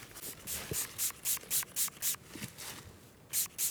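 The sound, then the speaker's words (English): A pump sprayer spraying fox urine scent onto a wick fires a quick run of short, airy hissing bursts, about a dozen in a steady rhythm, pausing briefly before two final squirts. No voices. “Spraying fox piss on this wick.”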